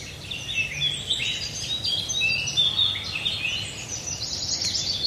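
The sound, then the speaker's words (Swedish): Birdsong from Fågelsångsnatten (Bird Song Night) on Swedish radio P1 fills the air with overlapping high chirps and trills from several birds, steady and continuous over a soft outdoor background hum, with no one speaking. “Under Fågelsångsnatten hörde vi vacker sång.”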